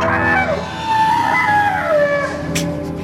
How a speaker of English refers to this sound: Like whales. Do you know what they were saying there? They were saying let's go for a swim.